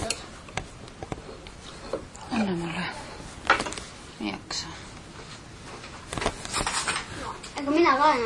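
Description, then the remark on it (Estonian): A spoon clicks and scrapes against a jar lid in a series of sharp, irregular metallic taps as someone tries without success to pry the jar open with it, with short bursts of a person's voice in between. “Selle lusikaga peaks saama. Võiks saama. Ei saa, ma ei oska sellega.”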